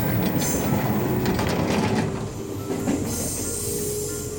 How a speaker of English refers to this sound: This electric train needs 3 doors.